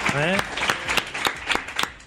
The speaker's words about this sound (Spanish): Pues nada, un aplauso